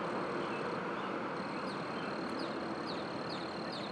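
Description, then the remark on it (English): Crickets chirp outdoors in a thin, steady high trill, faint beneath a heavy wash of traffic noise, with a few brief chirps poking through now and then. “Let's see if we can hear all these birds and crickets above the traffic.”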